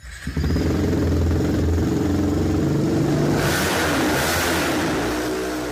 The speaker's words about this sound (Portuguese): Bom, já que se fala nela, vamos até à oficina, recorremos a um outro vídeo do projeto para ouvir o som dessa TLM01, a primeira moto a combustão feita por estudantes em Portugal.